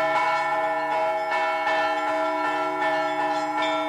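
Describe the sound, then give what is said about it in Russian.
Church bells peal loudly and continuously, struck in a quick, steady rhythm so their ringing tones overlap into a dense, resonant wash. No voices are heard. “А колокола звенели, трезвонили вовсю.”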